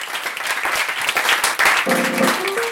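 Steady applause from a crowd fills the whole stretch, dense clapping at close range, with a few sustained musical tones entering near the end.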